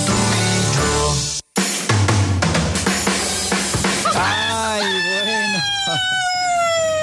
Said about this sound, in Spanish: Dime si tú sabes cómo hace el gallo. Vamos a escucharlo.